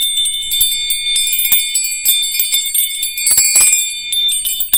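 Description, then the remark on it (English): Small hand bells jingle continuously in bright, shimmering clusters as they are moved from side to side during a sound treatment, a steady tinkling wash with quick rhythmic shakes, fairly loud with no voices. “I like my little bells.”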